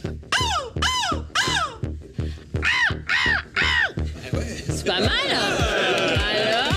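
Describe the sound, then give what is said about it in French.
A person at a seagull-cry contest imitates a seagull's cry with a rapid run of loud, rising-and-falling squawks, followed by a denser, noisier stretch of overlapping cries. “j'ai envie de faire un concours de cri de mouette?”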